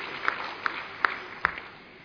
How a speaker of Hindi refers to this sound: जोरदार तालियों से आपका अभिवादन करते हैं।